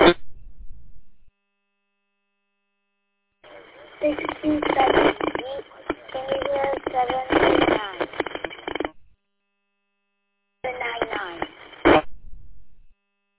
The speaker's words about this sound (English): 6278, all I heard there was a 799 coming through with a lot of static. 799 is calling in from Ferndale.